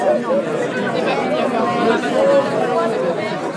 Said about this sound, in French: Il y avait une foule rassemblée devant le château.